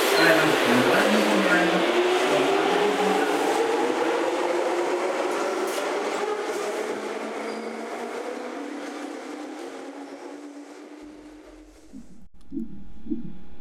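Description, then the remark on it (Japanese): A train rolls in loudly with a steady rumble and a whining tone that slowly drops in pitch as it decelerates, then comes to a halt near the end with a brief clunk. “ドアが閉まります。電車続いてまいります。”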